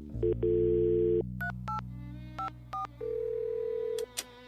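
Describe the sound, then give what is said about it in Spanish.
A steady telephone dial tone hums, broken by several short, evenly spaced touch-tone beeps as a number is dialed, each key press a crisp dual-pitch blip, with no talking. “Mira, acá está Verónica y la voy a invitar a salir. Pásame el teléfono.”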